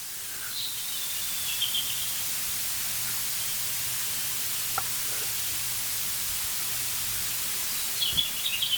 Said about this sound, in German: Wir hören sogar ein Rotkehlchen singen.